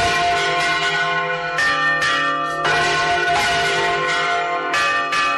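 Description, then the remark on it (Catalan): Church bells ring loudly and continuously, several bells overlapping in an irregular pealing pattern with repeated strikes about every second, their resonant tones sustaining between hits. No voices are heard. A midday toll in Os de Balaguer dedicated to silenced bells, rung at a gathering of about seventy bell ringers. “Aquest és el toc dedicat a les campanes emmudides que ha sonat aquest migdia a Os de Balaguer, on s'hi reuneixen una setantena de campaners de tot l'estat i de França.”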